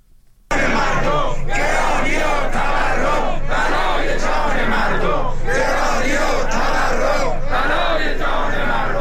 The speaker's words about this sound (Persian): بازنشستگان سازمان تأمین اجتماعی امروز یک شنبه در اعتراض به شرایط معیشتی خود در تهران در مقابل مجلس و چندین شهر دیگر در مقابل استانداری‌ها تجمع کردند.